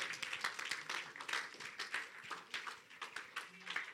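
An audience claps steadily for the Lord Jesus, dense overlapping hand claps forming a continuous wash of applause with scattered voices mixed in, moderately loud and sustained throughout.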